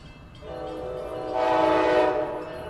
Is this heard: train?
yes